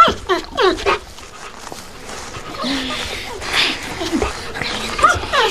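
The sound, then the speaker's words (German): A dog on a leash snuffles and sniffs eagerly at a cellar window in quick, rapid bursts, with faint whimpering noises and soft shuffling in between. “Vor einem Kellerfenster machte er Halt und schnüffelte aufgeregt.”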